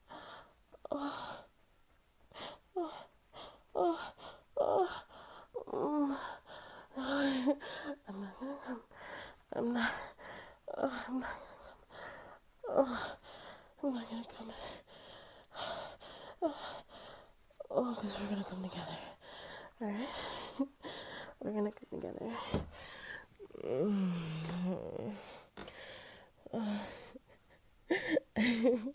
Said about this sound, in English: Your panting is getting so rough. Oh, I can feel you shudder beneath me.